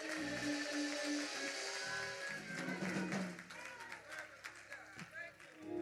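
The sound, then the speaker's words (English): An audience claps along in praise of God in a steady, rhythmic beat, the hand claps sharp and overlapping, over sustained musical tones and a murmur of voices throughout. “Come on and clap your hands and give God praise.”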